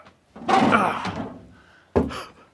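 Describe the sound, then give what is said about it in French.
A cellar trapdoor creaks open with a drawn-out, grinding rasp, then drops with a single heavy thunk shortly after. It is a fairly loud sound effect, with no talking. “Attends, effet spécial. J'ouvre la trappe.”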